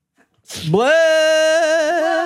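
A sharp, noisy sneeze burst that trails into a long, loud voiced tone, with no other talking around it.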